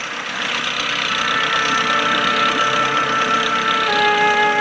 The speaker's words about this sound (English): He unties a faded wooden motorboat and gets in. Pulling a handle, he starts the outboard engine and steers the boat along the saltwater canal.